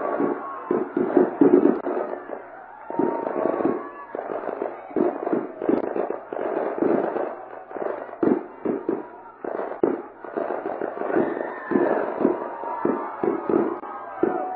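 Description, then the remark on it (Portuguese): A rapid, nonstop barrage of firework rockets bursting, with dozens of sharp cracks and pops overlapping for the whole stretch, over a faint background murmur. “Há muito tempo que eu não via tanto rojão assim.”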